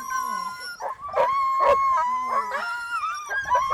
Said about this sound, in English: And she clearly finished with her dogs in top shape as they eagerly barked in the finish chute.